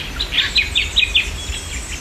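Bright, high chirping birdsong repeats in quick bursts over a soft outdoor background hum, with several short calls in a row from a small bird and no voices, recorded about 15 minutes from Sydney Airport by a member of the Walleye Creek Preservation Society.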